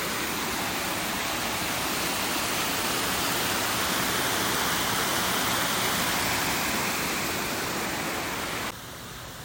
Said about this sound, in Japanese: 家の近所のねカフェに来ているんだけれども、まあ歩きながらね、まあ、山の中にあるカフェなので、まあ、水の音が聞こえる、私の声より水の音が大きくなってきた気がするんだけど、どうですか？